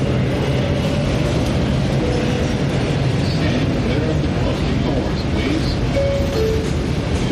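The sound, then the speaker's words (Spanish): A train rolls steadily through an underwater tunnel, a loud continuous rumble and rattle with a few faint high squeals, and indistinct voices murmuring underneath. “Ay, ahora es cuando vamos bajo el agua. Es increíble.”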